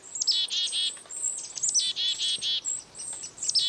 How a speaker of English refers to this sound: A closer look and listen reveal that this foraging flock includes several species of birds, chickadees, kinglets, and even a downy woodpecker.